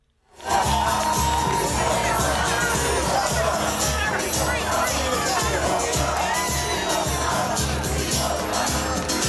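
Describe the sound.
A large crowd sings and chants together in a loud, sustained roar of voices, with cheers and shouts rising over a dense, steady wall of sound that starts abruptly and never lets up.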